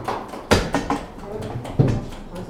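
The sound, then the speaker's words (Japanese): A chair is carried in by an arriving guest and set down, with several knocks and a heavier thud near the end, amid a bit of shuffling and room noise. “あ、椅子を持って、はい、来ていただけると。”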